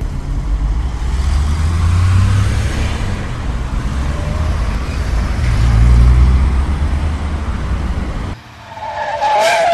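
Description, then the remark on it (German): A bus carrying a school class toward Melchsee-Frutt drives along with a loud, steady low engine rumble and road noise, then the sound abruptly shifts near the end to a brief rising, whining squeal. “Wir sind im Jahr 2044 und im Moment befindet sich die Klasse L4B im Bus Richtung Melchseefrut.”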